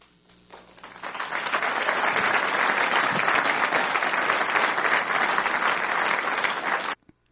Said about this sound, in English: So you hear the kind of polite hesitation before the applause in that case. It was a very polite and reserved crowd.